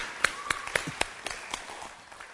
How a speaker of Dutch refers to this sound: Ten eerste geef hem een hartelijk applaus.